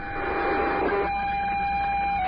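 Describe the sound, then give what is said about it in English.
A radio scanner picks up common carrier traffic: a steady, loud, band-limited hiss with a thin whistling tone running through it, busier and rougher for the first second before settling. “It's actually monitoring Common Carrier right now. So it's just to show you that there is traffic.”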